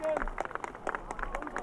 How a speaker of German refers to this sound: Nun geht die rote Fahne runter. Die Demonstranten klatschen, sie schwenken ihre Hüte.